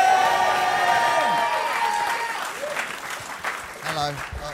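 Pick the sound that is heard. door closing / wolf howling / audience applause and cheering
audience applause and cheering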